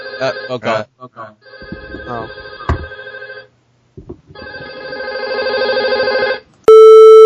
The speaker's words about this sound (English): Just going to have to cut off for a second. You hear that phone call?